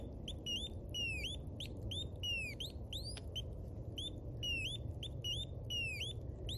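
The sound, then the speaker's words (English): Electronic bird calls from analog circuits made by artist Kelly Heaton: rapid repeating chirps and swooping whistles in quick rhythmic bursts, bright and clear over a steady low hum, with no talking. “There's artists who've made, there's one artist, Kelly Heaton, who made a whole analog, bunch of analog birds, and they recreate these awesome bird calls, and they're all analog circuits.”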